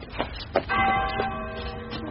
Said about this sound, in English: It's from the school. It's the old bell.